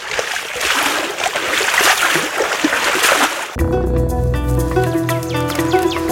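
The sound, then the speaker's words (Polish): Steady rushing water flows for about three seconds, a dense splashing current, then cuts abruptly to music with sustained tones and a low rhythmic pulse. “Ale drodzy Państwo, zanim przejdziemy do tych wszystkich akcentów wyjątkowych, archeologicznych, to jeszcze tak wraz z tym prądem wody będziemy płynąć ku atlasowi, atlasowi historycznemu”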